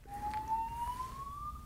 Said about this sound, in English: Fire alarm? I think so. Let's wait for that.